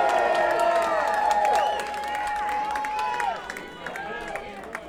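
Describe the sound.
An audience claps steadily for a band while voices cheer and whoop over the top, a lively crowd reaction that fades slightly toward the end.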